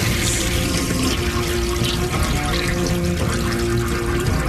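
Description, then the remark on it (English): A long toilet flush in a bathroom stall, a steady, loud rush of water that roars continuously without fading, with no voices over it. “It's a long flush.”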